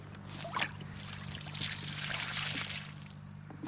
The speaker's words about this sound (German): Und jetzt kann man noch einmal den Rest vom Wasser dazugeben. So, dass die Wurzeln eine gute Verbindung haben mit der Erde.